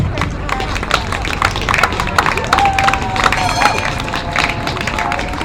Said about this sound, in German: Ja, ihr könnt ruhig klatschen.